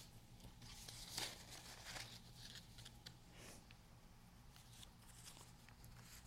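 Sheets of paper rustling and crinkling as they are shuffled and flipped through to find page 4, with a sharper crackle near the start and softer handling sounds continuing, no one talking.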